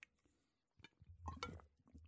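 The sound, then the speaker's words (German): A stainless steel drinking bottle filled with fresh tap water, kept within reach beside the speaker, is handled: a few soft clunks and scrapes, then a louder cluster of knocks with a brief metallic ring, with no talking. “Ich habe hier immer was neben mir stehen, in greifbarer Nähe. Ja, hört man vielleicht. Das ist eine Edelstahl-Trinkflasche.”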